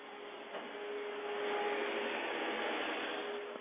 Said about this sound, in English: As the hurricane of the vacuum joins me tonight.